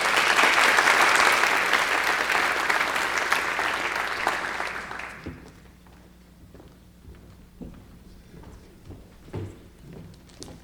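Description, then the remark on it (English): An audience claps loudly for about five seconds for an absent student prize winner, a dense crowd applause that fades out, followed by quiet background noise with a few scattered thumps and knocks. “So we can give him a round of applause in absentia.”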